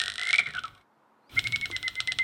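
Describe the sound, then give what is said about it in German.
Bat ultrasonic echolocation calls, emitted continuously in flight and made audible by a special device: rapid, regular dry clicks and ticks in quick bursts, with a short silent gap between two runs, sounding much like fast typing. “Sie stoßen im Flug andauernd sehr hohe Töne aus. So hoch, dass wir Menschen sie gar nicht hören können. Ultraschall nennt man das.”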